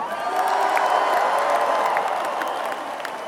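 A large crowd applauds and cheers in a dense, steady wash of clapping, with scattered whoops rising above it, loud and sustained throughout before easing slightly at the end.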